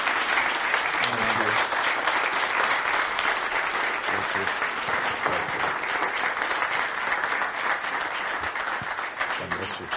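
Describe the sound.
A standing audience applauds steadily for the full ten seconds to thank their pastor of 29 years, a dense, even wash of many hands clapping at a constant loud level, with faint voices mixed underneath.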